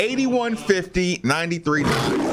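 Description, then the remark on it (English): A man lets out a short, throaty roar imitating a big cat, rising from voiced growling bursts into a rough, breathy blast at the end, fairly loud. “Give me, finish that off with a quick roar.”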